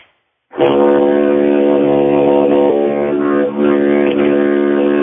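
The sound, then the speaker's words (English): After a brief silence, a deep, buzzy wind drone is played loudly in one unbroken breath, rich in stacked overtones and wavering slightly in tone with an oscillating sound, almost like a tuba. No one speaks. “And so it kind of sounds like almost a tuba when you first started.”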